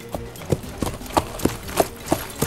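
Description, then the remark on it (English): Hooves of a ridden horse clip-clop at a steady walking pace as it heads off, about eight evenly spaced knocks over a couple of seconds, moderately loud, with no voices. “Then Jack got on his horse and headed off.”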